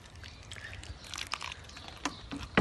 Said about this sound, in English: The last thing I was thinking about when I was planting my flowers is that plants need water to live as well. I have to water my plants every day to make sure that my plants don't stop growing, and so I'm going to give them some water now.